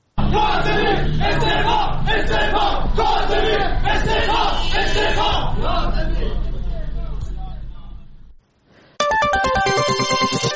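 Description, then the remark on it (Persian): A loud crowd of protesting workers at a rally in Urmia chants and shouts together for about eight seconds over five months of unpaid wages, demanding the resignation of the Urmia municipality's head of security, then fades out; after a short gap, a bright electronic jingle of stepped tones begins. “در این تجمع کارگران معترض همچنین خواستار استعفای مدیر کل حراست شهرداری ارومیه شدند.”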